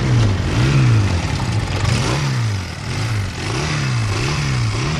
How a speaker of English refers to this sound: The sound of a well-tuned motorbike, that may be music to the ears of a Barry Sheen fan, but it's probably absolute anathema to anyone who's not so keen on a throaty roadside roar.